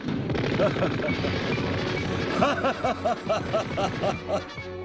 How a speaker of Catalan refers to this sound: Prem un pulsador i dispara una ràfaga de trets.